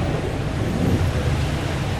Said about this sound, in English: So if you were a person commuting every day in Estonia on a bus, then every day you would hear this sound?